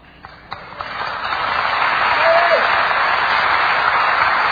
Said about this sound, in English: You know, that applause was not quite as strong as the others.